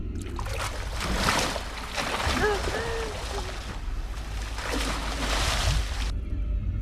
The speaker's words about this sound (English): Fins surface beside her. Sharks crowd the water. Two splash up next to her and fight.